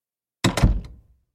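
door slammed shut

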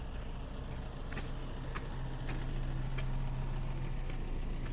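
car passing by

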